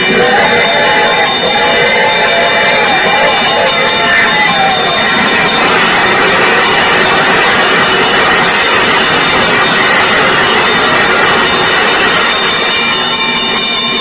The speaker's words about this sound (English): There's a train coming.